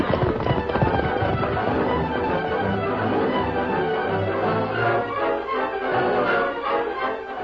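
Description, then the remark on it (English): A dense, loud clatter of many hooves pounding at a gallop, sustained and busy throughout as several horses carrying mounted riders race off together, with no voices. “Follow me and get your horse right away. Come on, boys. Here. Now mount, quick.”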